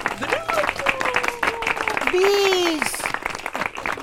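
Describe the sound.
A circus audience applauds at the end of the show, after the animal parade, with dense, steady clapping throughout, while excited voices call out and cheer over the noise, one rising into a loud, drawn-out shout.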